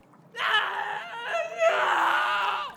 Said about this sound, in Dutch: maar hij wordt door het hele gezelschap zo afgrijzelijk geslagen dat hij het uitschreeuwt.